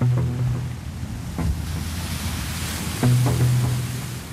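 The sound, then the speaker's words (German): A passenger boat of the Chiemsee fleet in Bavaria, with room for 350 passengers, pushes steadily through ice-cold, sluggish water in mid-November, with fog over the waves. A continuous rushing wash with a low engine drone and occasional thumps, with no voices. “Durchpflügt das eiskalte Wasser, das träge wirkt, fast wie Öl.”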